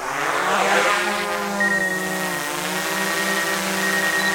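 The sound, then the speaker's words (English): A department's Frisbee-sized water-rescue drone, equipped with a camera and a small folded flotation device dangling from its center, whirs in a loud, steady buzzing drone, layered with harmonic tones that waver slightly in pitch, continuing alone without any voices. “the department was able to buy a special drone outfitted with some unique features.”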